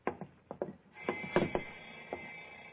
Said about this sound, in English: What's that? My alarm clock in the bedroom. Oh, it doesn't sound like it. Wait a minute. Oh, it's right here, under the floor.